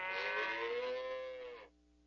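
A single long cow moo, loud, a rich sustained bellow that holds for over a second and a half before cutting off, with no one speaking.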